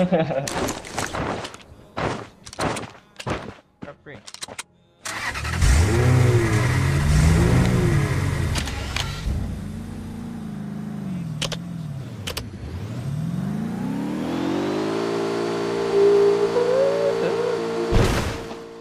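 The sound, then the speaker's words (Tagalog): A few sharp clicks and knocks give way to a loud car engine that revs up and down, then climbs steadily in pitch as it accelerates, with faint voices underneath. “May kotse dun, no?”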